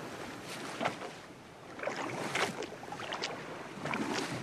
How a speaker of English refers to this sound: The wherry casts off and pulls clear of the submarine. Above the sound of the waves slapping against the wooden hull, Cassidy's voice ghosts across the water.